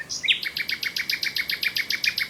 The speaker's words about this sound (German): Nachtigall.